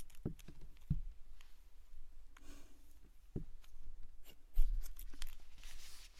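Scissors snip through hair in a handful of crisp cuts spaced irregularly apart, with faint rustling between them and no one speaking; a mother cutting her child's hair.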